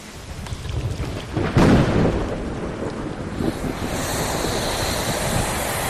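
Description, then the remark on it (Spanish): A recreated storm like one that soaked a balloon during an ocean balloon crossing: steady, heavy rain hisses throughout, with a deep thunder rumble swelling loudly early on before fading back into the constant downpour and wind. No voices. “os encontráis con una tormenta que empapa el globo por completo”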